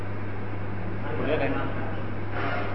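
A steady mechanical drone from an air cooler runs throughout, a constant low hum beneath broad whooshing fan noise, unchanging in level.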